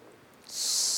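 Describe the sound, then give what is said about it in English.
A child makes a sustained, breathy hissing sound, imitating a snake. It starts abruptly halfway through, stays steady and fairly loud until the end, and no one speaks. “Snakes? You're afraid of snakes? No. Oh, you're just hissing.”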